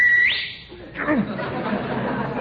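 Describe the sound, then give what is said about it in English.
A person gives a quick, loud whistle that slides upward in pitch, lasting under half a second, then gives way to a rough, noisy background commotion. “And don't whistle. You want to scare the life out of people?”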